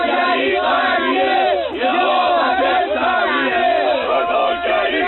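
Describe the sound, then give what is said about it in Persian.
A large crowd of demonstrators, supporters of population growth gathered in a city to defend the government's policies, shouts loudly and continuously, many voices overlapping in a dense roar with rising and falling cries, steady throughout with no pauses. “همکار گرامی یه سری از طرفداران افزایش جمعیت اینجا جمع شدن و دارن از سیاست های نظام دفاع میکنن.”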